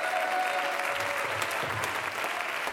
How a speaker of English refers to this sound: The Word of God is true for everybody, everywhere. Let's clap our hands unto God and give Him a little praise for His Word tonight.